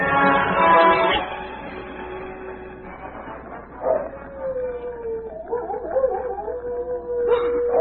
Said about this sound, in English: There it is again, Tom. And it's more wolves than one. They're answering each other.